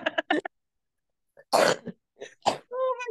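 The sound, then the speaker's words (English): A few short throaty sounds lead into two harsh coughs about a second apart, ending in a brief voiced groan as the throat clears. No words are spoken. “This cough better go away soon.”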